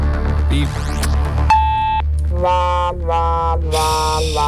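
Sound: voicemail beep tone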